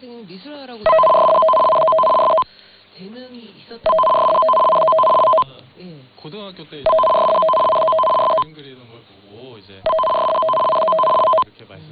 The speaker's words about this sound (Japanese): こちらは文化放送です。ただいまから緊急警報放送の試験信号を放送します。緊急警報受信機をお持ちの方は、受信機が信号を正しく受信するかどうか確かめてください。